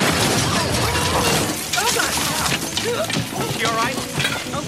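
A loud, sustained crash of shattering glass and tumbling debris as a car smashes through the wall of a house, with people shouting and screaming over the chaos from the middle onward.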